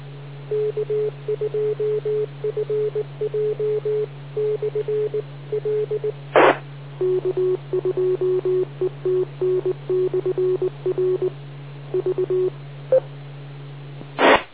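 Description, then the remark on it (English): Rapid Morse code ID tones from radio repeaters beeping in steady dit-dah rhythms over a constant low hum, with a couple of sharp clicks breaking the sequence; no voices, just the keyed tones on a radio channel. “Starting to sound like Morse code practice around here. All those machine IDs.”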